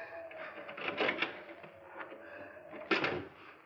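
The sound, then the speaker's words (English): An unlocked house door is handled and pushed open, with a rattling latch, a faint creak, then a sharper clunk near the end. Moderately loud, no voices. “Here's a door. It's only unlocked.”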